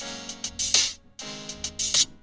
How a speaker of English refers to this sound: I mean, it's super like SNES era like music.